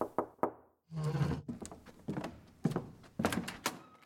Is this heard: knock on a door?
yes